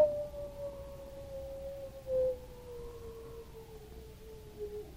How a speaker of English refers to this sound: When the storm had set itself, a great silence fell over the white wilderness. The silence that was broken only by the infrequent howl of a wolf.